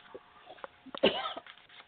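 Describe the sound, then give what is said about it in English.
A single harsh cough bursts out midway, briefly loud and raspy, preceded by a few faint breathy sounds and followed by a fading rough exhale. “I'm going to hand you to Annabelle and Brenda because I'm coughing right now”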